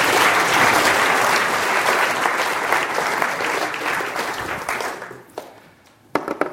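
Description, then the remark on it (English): A crowd claps loudly for the speaker's assistant after a demonstration, in dense, sustained applause that gradually thins and fades after about five seconds, leaving a few scattered final claps. “A round of applause for my glamorous assistant.”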